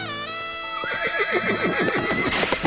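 A horse whinnies loudly, one long neigh that starts high and steady and then breaks into a rapid, shaking quaver, with no voices around it.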